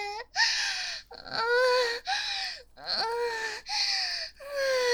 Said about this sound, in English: Oh god, you're fucking panting.